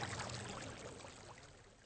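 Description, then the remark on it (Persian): A steady stream of drinkable water runs and splashes continuously from the spout of the Elisenbrunnen, a fountain dating from 1827, a soft, even gurgling wash with no voices. “Das hier ist der Elisenbrunnen aus dem Jahre 1827. Und das Wasser kann man trinken.”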